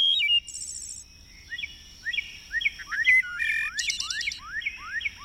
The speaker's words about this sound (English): Wherever you live, with the advent of spring, birds renew the world with song.